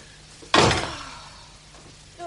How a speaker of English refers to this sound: Why can't children ever shut a door?